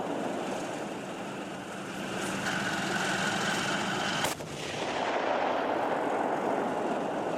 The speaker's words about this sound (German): Er ist um die 1500 PS stark, mehr als 60 Tonnen Gewicht auf zwei dicken Ketten, am Turm eine große Kanone. Der Kampfpanzer Leopard 2, hier beim scharfen Schuss auf dem Übungsplatz Bergen-Hohne.